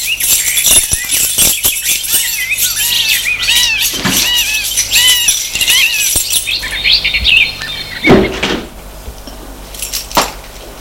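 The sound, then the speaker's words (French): Keys jangle and a lock clicks as the mayor unlocks an old house with a faded façade and rusted shutters, followed by its heavy old door creaking open, while birds chirp steadily outdoors in the background. No one speaks. “Sortent de voiture et le maire va ouvrir la maison.”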